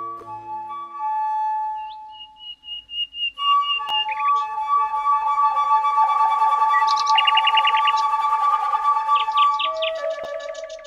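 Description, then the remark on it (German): Flute music from a CD plays alone: long held whistling notes joined by quick trills and chirpy bursts that mimic birdsong, fairly loud and steady throughout, with no talking. “Übrigens, mit der Flötenmusik auf der CD kann man nicht nur Vögel anlocken, sie hat auch ganz andere Wirkungen.”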